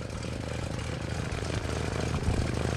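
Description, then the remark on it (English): A Cessna 210 propeller airplane engine drones steadily throughout after taking off from Sardi Field on a sunny late-June morning, a dense, loud, unbroken roar with a low rhythmic throb underneath and no voices. “all piled into pilot Gary Kraft's Cessna 210 and took off from Sardi Field to get the 14,000-foot view.”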